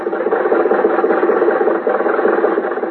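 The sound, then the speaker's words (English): A car engine hums steadily with a dense, rumbling drone and faint rattling vibration as the car carries its riders home from the races, holding an even level throughout with no voices. “When the races were over, Jack, Dennis, and I were riding home in Jack's car.”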